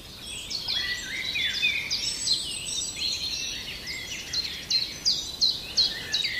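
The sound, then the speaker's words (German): A common chiffchaff sings its repeated high chirping notes in a steady rhythm, amid a busy backdrop of other birdsong with no voices. “Und der Zipzap ist ein spannender Vogel, weil der wird oft vernachlässigt, was so die Vogelsprache angeht.”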